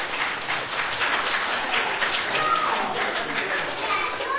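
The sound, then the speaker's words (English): A group of children clapping together for several seconds for the young artists' sheep drawings, a steady, dense patter of hands with excited young voices chattering underneath. “Let's give our artists a round of applause for that.”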